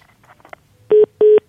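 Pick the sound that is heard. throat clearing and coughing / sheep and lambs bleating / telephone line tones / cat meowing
telephone line tones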